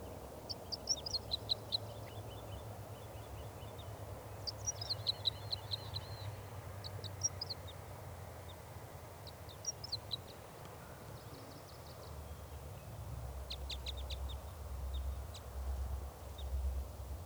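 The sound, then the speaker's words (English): A lone male wild bird, perched in a spruce tree near a net, sings in repeated bright, high-pitched phrases of quick chirps and warbles, separated by short pauses, over a steady low rumble of background noise. No one speaks. “Okay, I see one bird perched up in a spruce tree near the net.”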